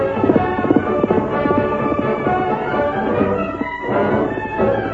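animal, horse hooves galloping

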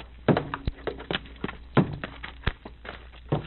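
household object, door being opened

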